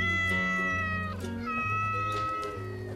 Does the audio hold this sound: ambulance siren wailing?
no